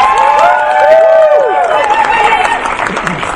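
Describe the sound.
A crowd applauds and cheers loudly and steadily as a panel guest is introduced, with rising and falling whoops from several voices over a dense wash of clapping that holds throughout.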